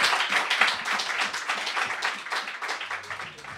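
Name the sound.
audience clapping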